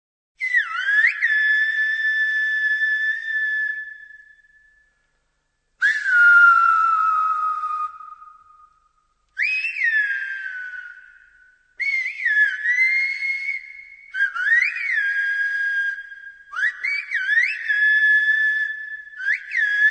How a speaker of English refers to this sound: But did you know that on the Spanish island of La Gomera, there is an entire whistling language? This language has existed for thousands of years and is still spoken, I mean whistled, today. Listen to this.